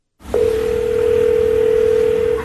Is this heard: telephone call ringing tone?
yes